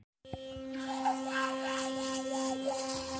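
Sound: electric toothbrush brushing teeth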